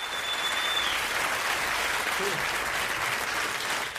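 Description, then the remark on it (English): An audience applauds steadily for the performer's wife, who is in the crowd, a dense wash of clapping hands that holds at an even, fairly loud level for a few seconds without letting up. “The crowd turns and applauds as a dark-haired woman smiles softly.”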